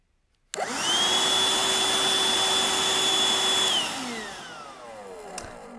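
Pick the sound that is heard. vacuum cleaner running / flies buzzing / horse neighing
vacuum cleaner running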